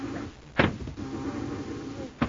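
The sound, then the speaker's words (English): A science-fiction ray gun is fired at Commander Corey: a steady electric whirring hum with two sharp, noisy blasts, one early and one at the very end, with no voices. “This ray gun will have to do for now.”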